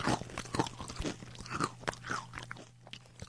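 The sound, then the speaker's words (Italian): Zorba, a big black cat, crunching dry kibble given by his young owner, a quick run of crisp, irregular bites and chews filling a few seconds, with a faint steady hum underneath. “È un ragazzo fantastico, pensa Zorba mentre si gustava i suoi croccantini.”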